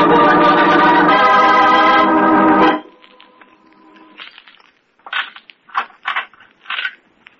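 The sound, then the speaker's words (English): The power lights for an execution are tested: a loud, harsh electrical buzz and crackle roars for almost three seconds, then cuts off abruptly, leaving a faint hum and a few short, sputtering crackles. “I've got to test the power lights for the execution.”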